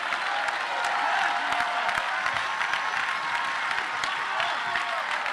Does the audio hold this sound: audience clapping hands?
yes